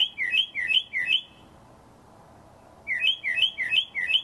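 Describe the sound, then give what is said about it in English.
A mockingbird, a common New Orleans species, calls in two bursts of bright, repeated chirping phrases, three quick notes, then a pause, then five more, sharp and clear with nobody talking. “That's another common New Orleans species, the mockingbird.”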